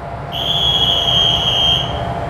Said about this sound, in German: Willkommen im Intercity von Hühnergeschrei nach Groß-Klein. Achtung, Türen schließen. Zug fährt ab.